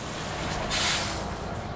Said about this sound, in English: Oh, here's a bus.